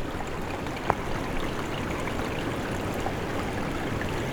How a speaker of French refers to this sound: Ces petits clapotis, doucement.